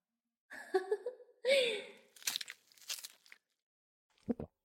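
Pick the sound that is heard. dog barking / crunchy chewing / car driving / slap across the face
crunchy chewing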